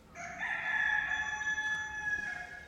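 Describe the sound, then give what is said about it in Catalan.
A rooster crows once, a loud, drawn-out cock-a-doodle-doo with bright harmonic tones that hold for a couple of seconds, with no talking. “Hi havia una vegada una velleta que vivia en una granja amb un gall.”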